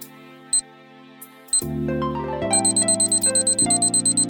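A countdown timer ticks in a fast, steady rhythm, kicking in after a few isolated clicks and riding over a low, sustained synth drone. No one speaks.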